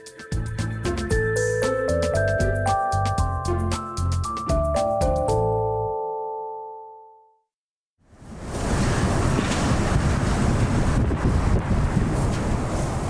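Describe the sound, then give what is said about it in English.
A melodic musical passage fades out, then after a short silence comes a loud, steady roar of heavy rain and strong wind as Tropical Storm Isaias slams the Carolinas, dense hissing noise for about five seconds with no talking. “The sound of heavy rain and strong wind as Tropical Storm Isaias slammed the Carolinas.”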